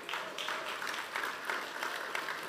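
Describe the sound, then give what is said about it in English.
Polite, scattered golf clapping from a church service audience shown an architectural rendering of a new building, a steady patter of light, crisp claps at moderate volume with no voices over it. “I got a golf clap there.”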